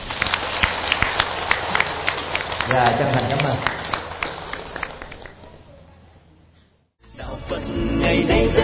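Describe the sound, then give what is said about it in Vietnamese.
Loud, dense applause from a crowd applauding to congratulate one another fills the first several seconds, then fades almost to silence before a voice speaks briefly and a fuller sound returns. “Và hãy dành một tràng vỗ tay thật là lớn để chúc mừng nhau.”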